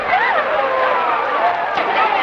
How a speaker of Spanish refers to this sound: Familiares de los inmigrantes los reciben con euforia. Años y años de ausencia, y este encuentro más que emotivo. Escuchen los gritos.